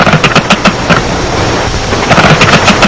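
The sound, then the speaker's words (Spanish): A vervet monkey snake alarm call: rapid bursts of harsh chattering pulses, clustered at the start and again near the end, over a steady noisy background. “Y este para serpiente.”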